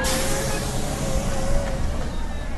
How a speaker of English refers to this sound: The president's bus suddenly turns a corner and rolls past.